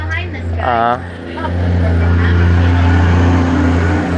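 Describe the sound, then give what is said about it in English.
A water truck, which sprinkles water on the road to keep the dust down, drives past on a road in the Maasai Mara, its deep engine rumble swelling and holding loud, with a person briefly talking at the start. “That was a water truck that came by.”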